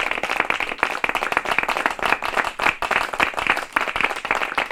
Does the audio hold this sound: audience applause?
yes